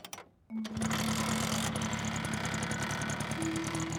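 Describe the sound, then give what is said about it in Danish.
After a brief hush, a boy's 4-gear Yamaha moped, stopped on the sidewalk by the bank on Mørkøv's main street in 1992, sputters to life and settles into a loud, steady buzzing run, continuous, with its pitch shifting slightly near the end. “Så starter han den igen.”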